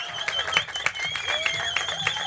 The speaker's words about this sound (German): Ist immer geil, einen Podcast zu machen und Live-Publikum zu sehen und auch zu hören. Vielleicht mal einen kleinen Applaus hier. Danke, Norrisring.